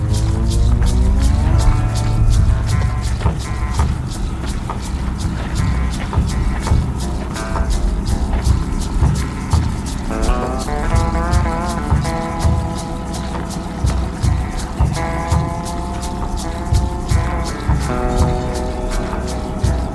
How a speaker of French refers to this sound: De là, sur le bord de la route, un immense bus est stationné, moteur allumé. A priori, ce sont les Border Patrol qui viennent de repérer des migrants et qui les mettent dans le bus.